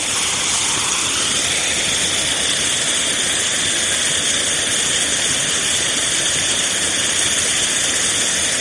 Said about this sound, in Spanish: Ya os podéis imaginar con qué fuerza caía por allí el agua, pero mejor que imaginároslo, os invito a caminar por esos caminos de sirgas y lo comprobéis vosotros mismos.